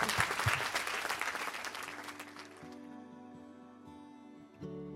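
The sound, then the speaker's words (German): Loud, dense applause from an audience at the close of a Fragen des Lebens conversation fills the first two seconds. It then thins out as a sustained musical tone with steady low notes takes over to the end. “Okay, ein Applaus.”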